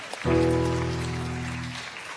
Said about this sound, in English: Big round of applause, everyone.